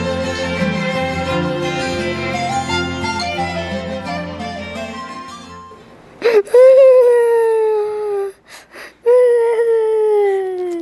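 After a stretch of music fades out, a child bursts into loud crying: drawn-out wailing sobs with brief whimpering gasps between them.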